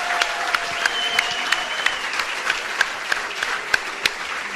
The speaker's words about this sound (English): That's a pretty good life, Coach. They walk in, they order food, everybody claps because they're here.